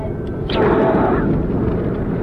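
A passing freight train crossing the path of a stopped vehicle gives a loud, steady, deep rumble that swells up sharply after a brief lull and keeps roaring without a break.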